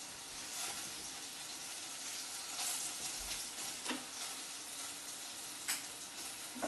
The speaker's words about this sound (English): Give that a really good stir. Now, as you can see, the meat has taken on the colour of the spices and it's also turned brown on all sides.